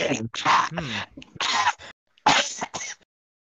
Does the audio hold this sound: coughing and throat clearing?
yes